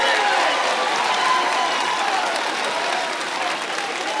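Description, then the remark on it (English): An audience at a seed training session claps together in a dense, steady wash of applause that stays loud throughout, with faint voices mixed underneath the clapping. “We're just clapping because we're happy.”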